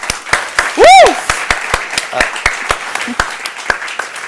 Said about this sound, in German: Ein Applaus bitte für Sie.